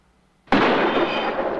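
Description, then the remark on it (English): A single sharp rifle shot, fired through a courtroom window, bursts out of silence, followed by a loud, sustained crash of shattering glass that rings on for over a second without fading much. “He fires through the glass.”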